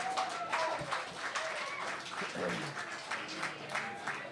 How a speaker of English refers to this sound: Yes, clap more. More clapping.